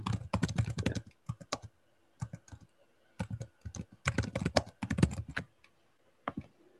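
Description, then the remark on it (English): Rapid computer keyboard typing in bursts of quick clicks, pausing briefly between flurries, with no voices present. “I guess I can wait till you're done typing, but”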